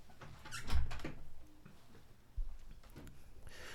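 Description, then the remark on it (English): A door in a studio in Hampshire swings shut with a squeaky hinge and a solid low thud, followed a moment later by a second, softer knock as it settles. No one speaks. “I'm just going to close the door.”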